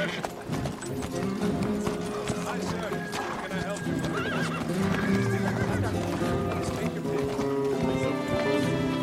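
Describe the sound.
A horse whinnies loudly over a steady clip-clop of hooves, the busy sound continuing throughout with faint voices mixed into the background.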